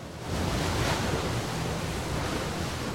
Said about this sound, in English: on a boat cruising past a grand palace on the water's edge.